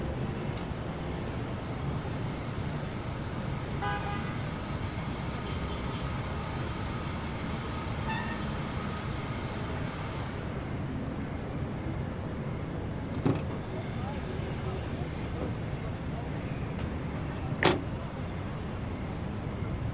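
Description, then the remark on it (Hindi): A car engine rumbles steadily, with a couple of faint, brief horn-like tones early on and two sharp clicks near the end, as a car is brought round for someone. “एक गाड़ी लाया हूँ आपके लिए, बिल्कुल दुल्हन की तरह खूबसूरत।”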